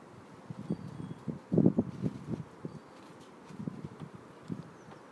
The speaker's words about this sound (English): You can probably hear the wind. It's more high up in the trees. Here it comes. It's just general wind rather than really big gusts.